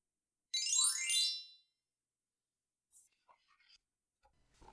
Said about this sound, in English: When you hear the chime, turn the page.